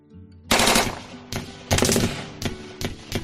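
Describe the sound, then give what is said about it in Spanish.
Loud bursts of automatic gunfire, some 400 shots fired indiscriminately at Omar and his bodyguards in the street, a sustained rattling volley followed by several shorter rapid bursts in quick succession, harsh with no voices. “dispararon indiscriminadamente contra Omar y los escoltas en plena calle.”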